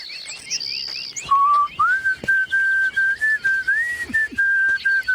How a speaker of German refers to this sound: Du kannst den schön pfeifen.